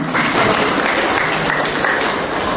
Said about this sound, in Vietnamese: Rồi, cho một tràng pháo tay thưa anh chị em.